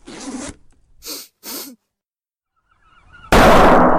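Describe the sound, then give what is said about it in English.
A few short scraping, rustling bursts give way to a pause, then a dripping trap slams hard against a boat rail with a sudden, loud, noisy crash that carries on to the end. “The trap slammed against the rail.”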